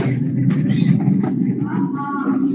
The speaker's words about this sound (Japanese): すいません、今、台車が通りましたね。